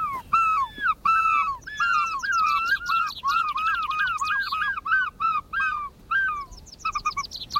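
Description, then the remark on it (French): A person imitates the cry that gulls make when they see the sea: loud, high yelping calls repeated in a quick, steady rhythm for several seconds, with no talking. “Et puis un soir, j'ai eu l'idée de pousser le même cri qu'ils poussent quand eux voient la mer.”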